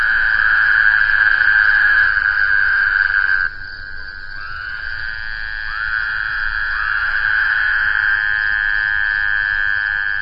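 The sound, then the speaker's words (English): Woodhouse's toads give a loud, nasal, buzzing drone that carries on almost without pause, with overlapping calls swelling in after a brief dip partway through. No one speaks. “The call of Woodhouse's toad is enough to put anyone on edge in the middle of the night.”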